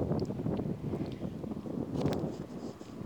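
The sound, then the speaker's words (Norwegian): Steady, blustery wind roars across an outdoor microphone during a walk in a forest on a very windy day, a dense low rumble with gusty surges and a few faint higher rustles, continuous throughout with no talking. “Kanskje blir det litt lyd av vind, for det blåser ganske kraftig her i dag.”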